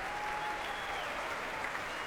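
A concert audience at the BBC Proms applauds and cheers as BBC Philharmonic chief conductor Juan Homena returns to the stage: a loud, dense, unbroken wash of many hands clapping that holds steady for the whole couple of seconds, with no one speaking.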